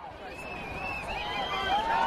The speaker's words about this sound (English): The crowd outside the courthouse erupts. They had speakers outside the courtroom. You could hear the people down screaming. You could hear it all the way up to the courthouse. You could hear car horns honking.